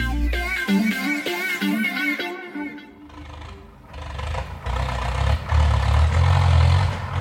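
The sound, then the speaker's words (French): A Ukrainian tractor's engine towing a Russian tank rumbles loudly, a heavy, steady low growl that builds over the second half, following a brief tonal passage at the start. No voices. “10 jours après le début de la guerre, un tracteur ukrainien tire un char russe.”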